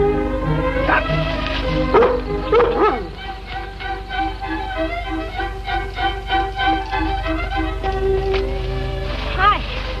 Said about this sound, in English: Dog woke you up. That's all right. Nice dog.